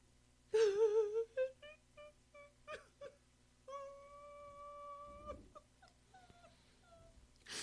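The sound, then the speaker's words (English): A cat loose in a car meows repeatedly: a loud wavering wail, a run of short cries, then a long drawn-out yowl and a few softer calls, with no talking. “My sister's cat's loose in my car, and then there's my car.”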